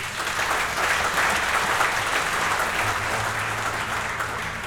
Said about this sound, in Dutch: Ook een applaus voor hun vraag.